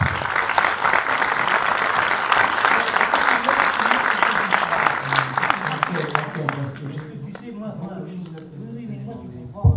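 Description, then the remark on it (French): An audience breaks into a dense burst of applause that keeps up for several seconds, then thins out and fades as a voice starts speaking over the last scattered claps. “D'abord, je voudrais qu'on t'applaudisse.”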